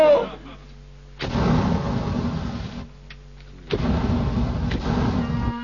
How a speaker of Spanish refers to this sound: Estallido atómico en Nueva York. 3 manzanas fueron arrasadas por una bomba que la policía arrojó sobre un malviviente.